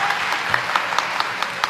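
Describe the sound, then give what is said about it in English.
An audience at an ALA-APA council meeting applauds after a motion is adopted, a steady patter of many hands clapping, moderately loud and fairly sparse, lasting under two seconds with no voices. “Where's that clapping?”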